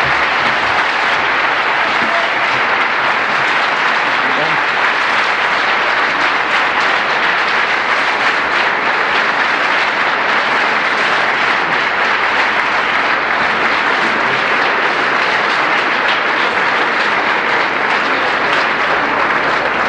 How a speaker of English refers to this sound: All right, once again, let's have a round of applause for both James White and Tim Staples.